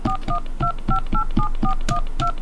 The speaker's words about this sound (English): To make a call, dial 1, area code, and phone number now.